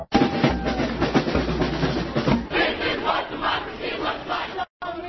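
Tens of thousands of protesters at the Wisconsin state capitol shout and roar together in a dense, continuous wall of voices, with rhythmic surges of chanting rising and falling throughout.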